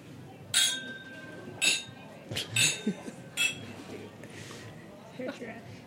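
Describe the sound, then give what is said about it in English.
Several glasses of whisky clink together in a toast, four or five bright ringing taps spaced about a second apart, with faint murmuring voices in the background. “So I'm going to cheers everyone in the room with a good slánge vá.”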